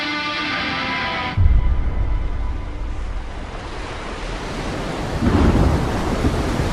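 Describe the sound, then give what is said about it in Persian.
A thunderstorm: a deep rumble of thunder breaks in after a brief tonal sound cuts off, steady heavy rain hisses throughout, and a second low roll of thunder swells near the end. “قسمت هفتم، طوفان.”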